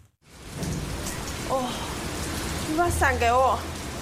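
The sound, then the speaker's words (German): Steady, heavy rain pours down on a city in Taiwan in a dense hiss that fills the whole scene, while the raised voices of a teenage girl and her little brother arguing on a building's rooftop briefly cut through partway in, half-buried under the downpour. “Es regnet in Strömen und eine Teenagerin streitet sich auf dem Dach eines Gebäudes mit ihrem kleinen Bruder.”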